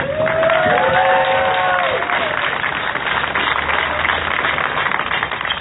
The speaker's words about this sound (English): But I think those people who've been fighting this battle for years years before any of us were even here on this planet, deserves a special applause right now.